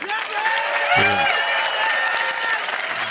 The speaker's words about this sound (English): Wow, that was pretty hot. That was good. That was better than the Amazon clap. So that's an 8.